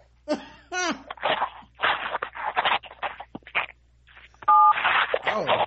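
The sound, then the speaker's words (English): Telephone dial-up tones on a Kinko's phone line: choppy bursts of hissy, warbling line noise, then one loud, steady two-pitch touch-tone beep near the end before more static-like chatter. “Apparently, Atla has still has dial-up phones.”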